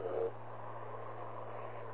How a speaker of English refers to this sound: Anyway, yeah, the traffic noise is terrific out here. Got trucks and people speeding up and down the road. It's a wet road, too, so that's even louder.